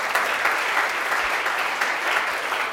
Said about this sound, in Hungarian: Tehát lényeg az, hogy köszönöm szépen, körülbelül ennyi, tapsoljuk meg, nagyon szép volt.